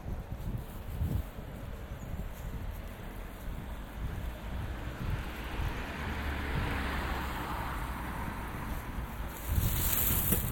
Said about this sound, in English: Oh, but that's windy. The tiniest little breeze affect these.